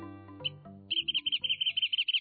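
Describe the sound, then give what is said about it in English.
Wrentit's bouncing-ball song: a run of high, sharp whistled notes that starts spaced out and speeds into a quick trill, following a brief passage of low sustained musical tones. The wrentit is a long-tailed brown bird of coastal chaparral. “We're listening to the bouncing ball song of one such special bird, the wren-tit.”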